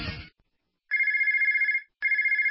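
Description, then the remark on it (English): A phone rings with a bright electronic trill, two loud bursts separated by a short pause. A brief burst of noise comes just before the first ring. “If you're in a service business, that's money ringing in your ears. If your phone's not ringing, chances are it's a problem with your marketing.”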